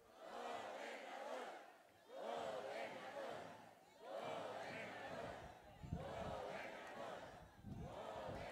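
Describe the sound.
A large crowd at a political campaign rally in Yucatán, Mexico shouts a chant in unison, 'Gobernador', for candidate Díaz Mena: four loud rhythmic bursts of massed voices repeating the same call, each swelling and dipping with brief gaps between.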